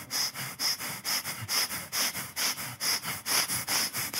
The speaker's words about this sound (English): And you let it go for a little while, but finally you get up the courage to ask, what are you doing? And I'm like, oh, I'm getting my breathing in.